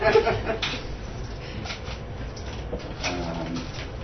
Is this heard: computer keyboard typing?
no